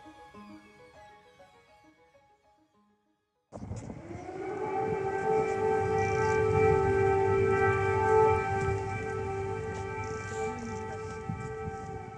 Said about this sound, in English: But as I discovered, most residents now tend to ignore the frequent air raid alarms.